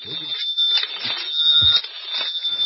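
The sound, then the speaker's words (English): A telephone rings with a steady, shrill electronic tone that holds without pause for the whole moment, while muffled voices murmur faintly underneath. “Telephone's ringing.”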